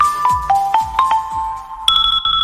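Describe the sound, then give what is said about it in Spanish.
A short electronic 'bip, bip, bip' melody in a Correos Market advertisement about buying online from Spanish companies: steady beeping tones hop between a few mid pitches over soft thumping beats, ending on a brighter, higher sustained beep. “Si al ir a comprar por internet te suena este bip, bip, bip en tu cabeza y decides comprar a empresas españolas, damos este anuncio por bueno.”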